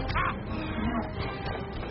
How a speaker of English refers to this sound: It's the bird!